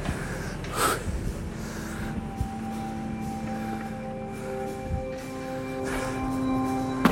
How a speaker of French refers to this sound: Eh ben, bien, c'est physique votre affaire. Essoufflé, c'est normal, hein, c'est pas trop bien ventilé.